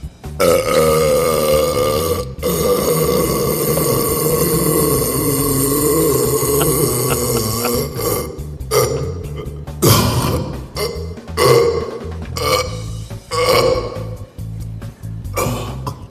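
A long, loud burp by a burping champion rumbles continuously for about eight seconds with a steady resonant tone, then breaks into a series of shorter, choppy belches and throaty gurgles.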